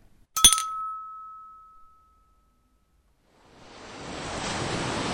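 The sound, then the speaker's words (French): A single bright glass clink from a toast rings out and fades, then after a brief silence the steady wash of waves breaking on rocks as the tide comes in at night under the moon swells in and continues, with no voices. “La marée remonte. Quelques rochers affleurent encore”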